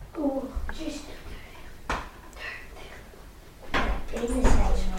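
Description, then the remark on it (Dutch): A door is pushed shut by boys with a couple of sharp knocks and thuds, while young children's voices chatter briefly. “Jongens, willen jullie even die deur dicht doen?”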